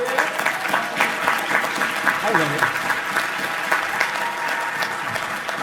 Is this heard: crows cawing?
no